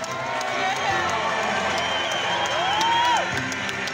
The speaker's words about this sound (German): Die Fans jubeln, schwenken Fahnen in den Clubfarben rot-schwarz, Kinder winken mit Schaumstoffschwertern.